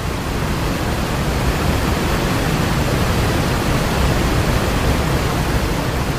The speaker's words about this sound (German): Ihr hört es schon, richtig wildes Wasser. Überall spritzt das Wasser. Das Wasser hat eine unglaubliche Kraft und damit sind wir natürlich relativ schnell beim Wildwasser-Rennsport.